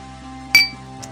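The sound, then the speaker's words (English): A single bright clink of glasses tapping together in a toast, ringing briefly with a short shimmering decay, followed by a faint softer touch a moment later over a low steady hum. “Cheers! Cheers!”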